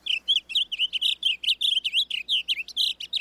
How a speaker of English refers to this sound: Today, rather than the roar of cannons, fields like Antietam are filled with the songs of blue grosbeaks.